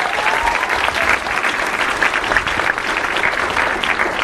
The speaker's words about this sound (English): Let's give him all one more big applause.